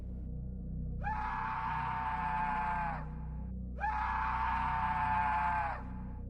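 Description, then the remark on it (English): Two long human screams from far off in the distance on a trail, each held steady for about two seconds with a brief pause between them, ring out over a constant low rumble. No one speaks. “Then, out of nowhere, somewhere far off in the distance, behind us, we heard the screams.”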